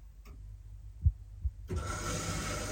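A washing machine starting up after being started from a mobile phone app: a low hum, two dull clunks, then a steady rushing hiss kicks in abruptly and keeps going, with no one talking.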